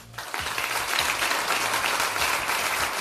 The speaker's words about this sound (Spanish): Aplauso eterno para Pau Gasol, 2 anillos de la NBA y 11 medallas con España, incluido 1 oro mundial y 3 europeos.